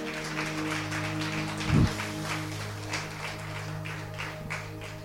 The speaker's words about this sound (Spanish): Démosle un aplauso al Cristo que mora en el pastor.